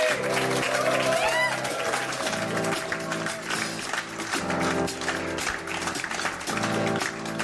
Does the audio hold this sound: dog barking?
no